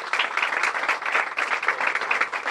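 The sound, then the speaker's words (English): A crowd in Buffalo breaks into steady applause welcoming Mayor Byron Brown, many hands clapping at once in a dense, sustained wash of sound that stays fairly loud throughout, with no voices standing out. “So I'd like you to join me in a round of applause as we welcome our mayor, Byron Brown.”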